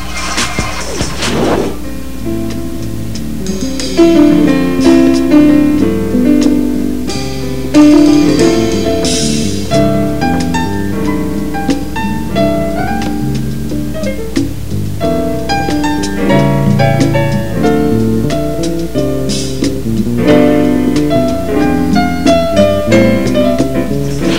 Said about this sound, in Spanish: Bien, vamos a hacer un breve corte, un puente musical y volvemos. Está escuchando Momento Económico.